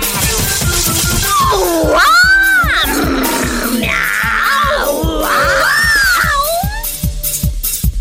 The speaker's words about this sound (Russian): Кис-кис-кис-кис-кис-кис-кис. Девочки, начали мяу.